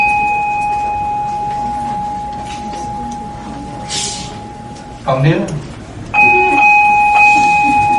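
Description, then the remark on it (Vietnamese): A large village communal house bell, not a pagoda bell, hums with a long, steady ring that fades out, then is struck again and rings on loudly; a man speaks briefly in the pause between strokes. “Chuông này là chuông của đình, không phải chuông chùa.”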